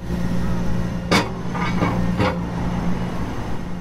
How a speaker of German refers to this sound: Das Zentrum von Oslo hat sich in eine riesige Baustelle verwandelt. Am Rathausplatz unweit der Fähren, die auf die Inseln im Oslofjord führen, wird am neuen Nationalmuseum gebaut.